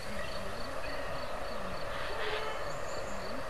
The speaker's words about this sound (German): Könnt ihr den Bach hören? Ich halte jetzt mal mein Diktiergerät in dieses super ekel Corona-Ohren-Ding.